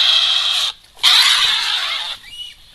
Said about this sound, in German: Klingt irgendwie nach Katze. Genau, das ist die Wildkatze mit dem Spitznamen Eifeltiger. Das klingt aber sehr wild.